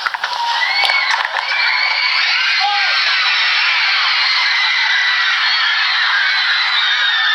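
A loud, sustained wall of high-pitched screaming and cheering from a large crowd of fans as their idol steps out of the door for his first appearance of the morning, with shrill individual shrieks rising and falling throughout, holding steady at full intensity.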